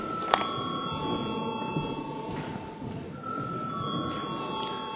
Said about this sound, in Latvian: Paldies, lūdzu zvanu.